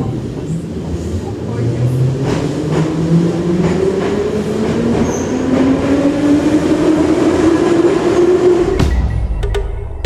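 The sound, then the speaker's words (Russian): A metro train pulls out of a station after the doors close, heading for Kurskaya station, its electric motors whining in a steadily rising pitch over a loud, continuous rumble of wheels, before the tone cuts off abruptly near the end. “Осторожно, двери закрываются. Следующая станция Курская.”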